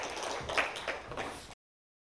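A church audience breaks into applause to welcome a brother coming up to give his testimony, a dense, steady wash of many hands clapping at fairly even loudness for about a second and a half before cutting off, with no voices heard.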